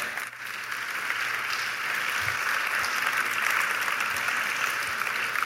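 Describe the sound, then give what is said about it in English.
An audience breaks into sustained applause for Basque Country chefs Juan Mari Arzak and Andoni Aduriz, a dense, steady wash of many hands clapping at an even level for several seconds, with no voices standing out. “Big applause.”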